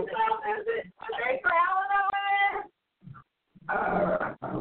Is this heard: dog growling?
yes